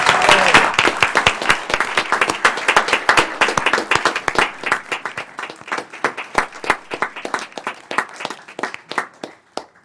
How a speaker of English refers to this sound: The resolution passes unanimously. We'll suspend the rules and applaud our heroes. Woo!